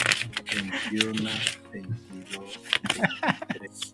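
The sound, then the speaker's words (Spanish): Sheets of paper are flipped and counted in quick, crisp, papery flicks, fairly steady, while people talk over them. “Nada más se oyen ahí las pinches hojas y hojas.”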